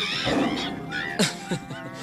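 A tiger roars in a rough, sustained growl that rises and falls, with two sharper, louder bursts near the end, mixed with other animal calls.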